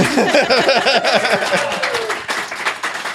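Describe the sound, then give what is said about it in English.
A crowd at Gen Con breaks into loud, dense applause for the board game industry, with rising and falling cheers and whoops over the first couple of seconds, then steady clapping that carries on to the end. “And because you guys have been quiet for like 15 seconds, applause to the board game industry.”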